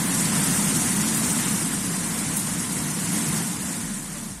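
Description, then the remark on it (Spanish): Floodwater rushes down the streets in a loud, steady roar, a dense continuous churn with a deep rumbling undertone that barely changes for the whole stretch, with no voices. “Así, con esta fuerza que escuchamos, bajaba el agua por numerosas calles.”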